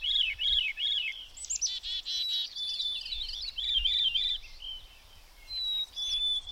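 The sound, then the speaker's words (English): Several birds sing at once in a steady, overlapping chorus of warbles, looping whistles and quick trills, bright, continuing without pause and with no voices. “Warbles and trills and solo after solo of sweet, sweet and weep, weep and dee, dee, dee.”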